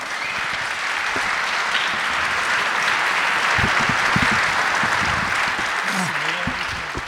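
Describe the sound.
Loud, sustained applause from a large audience fills the whole stretch as a dense, steady roar of clapping, with a few voices faintly audible underneath near the end.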